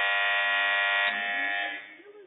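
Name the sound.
quiz buzzer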